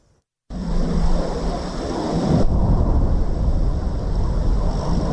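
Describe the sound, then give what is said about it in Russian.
A loud, jet-like roar of an incoming aerial bomb near Ukrainian artillery positions on the Avdiivka front bursts in abruptly after a brief silence and rumbles on steadily, growing slightly heavier midway, with no voices. “Шум, как будто реактивного самолета, затем взрыв.”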